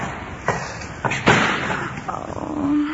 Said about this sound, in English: Take five, will you please? And don't slam the door!